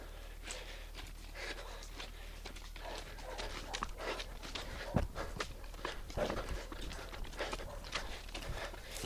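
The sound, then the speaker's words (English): Dogs trotting over loose railway-track gravel, their quick crunching footfalls coming in a steady, uneven patter with a few sharper scuffs, under a low outdoor rumble and no talking. “The dogs are onto us.”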